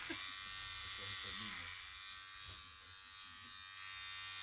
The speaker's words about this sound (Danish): Det skal siges, min trimmer, altså jeg plejer jo at synes, mit hår bliver langt, når vi når op omkring 4 mm. Ja. Så den er, ikke, den er ikke vant til at klippe sådan noget, som er 30 mandecentimeter.